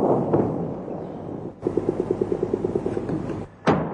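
Gunfire from American helicopters during an operation in Najaf, Iraq: a steady rumbling roar, then a rapid, evenly spaced burst of about fourteen sharp shots lasting nearly two seconds, a brief lull, and a loud final crack.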